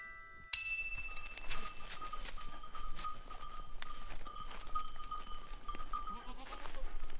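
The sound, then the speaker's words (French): A herd of goats bleats, several overlapping calls rising and falling over a busy, steady farmyard din, with no talking; the goats of a goat breeder and cheese producer at Le Désert in Valjoufrais. “Et là, ça fait 20 ans que je suis la seule au désert à avoir des chèvres, quoi.”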